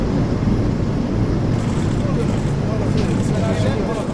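A steady, loud roar of the engine of an airplane carrying Arab leaders to Riyadh, Saudi Arabia, with heavy low rumble and a broad hiss, holding constant for the full few seconds without any clear breaks.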